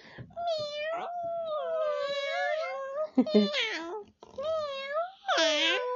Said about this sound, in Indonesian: Tangis si kucing, ya tidak diberi makan sampai kepalanya pusing.